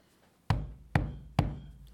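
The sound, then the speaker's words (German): Three loud, heavy pounding knocks by an old man with a walking stick on the wooden door of an inn's taproom, evenly spaced about half a second apart, each with a deep thud and a short ringing decay, with no voices. “Und plötzlich donnerte es gegen die Tür der Gaststube.”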